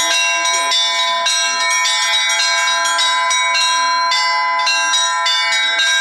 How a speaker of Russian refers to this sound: Звонить в колокола – задача не из простых, но в дуэте с профессиональным звонарем неплохо получалось даже у тех, кто попробовал это сделать впервые.